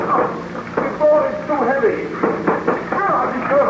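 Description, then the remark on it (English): Several heavy, irregular thuds of someone pounding on a thick, heavy door to break it open, with voices talking and calling out over the blows. “Help me to break this door open. It is a heavy door.”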